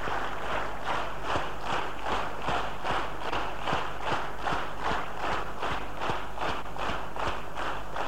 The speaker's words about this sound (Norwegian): Akkurat nå så bråker vi veldig mye når vi klapper.